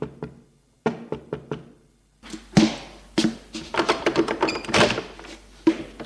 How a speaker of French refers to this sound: Un quart d'heure plus tard, on frappe à sa porte.